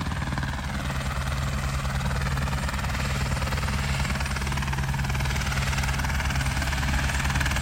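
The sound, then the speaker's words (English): A search and rescue helicopter idles steadily without winding down while rangers unload their equipment, its rotor thumping in a constant low drone with a broad rushing roar above it, unchanging in loudness throughout. “The helicopter doesn't wind down.”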